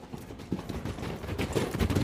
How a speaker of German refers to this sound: Es klang wie das Getrappel von Pferdehufen.